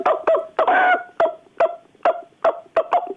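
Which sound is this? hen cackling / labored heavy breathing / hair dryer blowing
hen cackling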